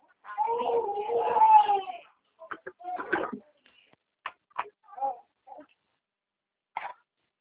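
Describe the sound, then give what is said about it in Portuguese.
A baby cries: one long, wavering wail that rises and falls, followed by a few short, scattered whimpers and fussy sounds with brief silences between them. “Isso é o bebê.”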